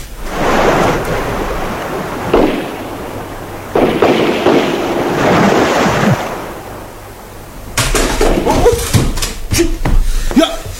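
Gunfire from a distance, shot from a hill: a rapid, irregular series of sharp cracks and booms bursts out over a steady rumbling, roaring background, after several seconds of dull, surging noise.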